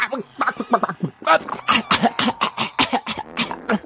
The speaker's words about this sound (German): Und das Röcheln und das Husten und Keuchen ebbt dann irgendwann ab. Und ihr hört, wie irgendwelche Kreaturen offensichtlich zu Boden gehen, zu Boden fallen, bis dann das Keuchen wieder aufhört.